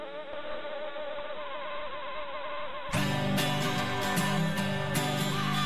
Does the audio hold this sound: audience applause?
no